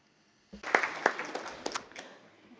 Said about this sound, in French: Nous pourrions peut-être applaudir la Suisse pour cette initiative.